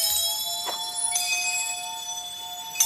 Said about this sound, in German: Vergesst nicht, nach Golddublonen Ausschau zu halten. Golddublonen sind goldene Münzen. Und wenn sie auftauchen, klingt das so.